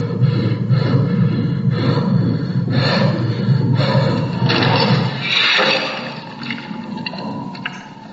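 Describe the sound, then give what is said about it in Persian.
A heartbeat sound effect in a film scene thuds in a steady rhythm beneath loud, heavy, rasping breaths, all over a dense low rumble that eases slightly near the end. No one speaks. “گوش کن صدای قلبو صدای نفس زدن، قلب تون داره میزنه، این همه افکته.”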